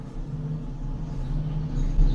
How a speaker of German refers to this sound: Ich hoffe, man hört sich im Mikro, aber hier passieren gerade irgendwelche Dinge. Ja, es klingt wie ein Bohrer, der auf der Straße ist, aber okay.